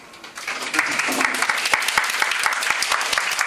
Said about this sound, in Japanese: 拍手はまだ早い拍手はまだ早い。いつものつかみでございます。